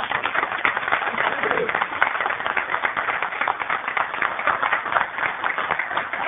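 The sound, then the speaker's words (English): A steady round of applause from a Board of Supervisors congratulating a newly appointed official, many hands clapping in a dense, continuous patter that holds at an even level for several seconds. “I would like to congratulate you and ask the Board of Supervisors to join me in a round of applause for you, sir.”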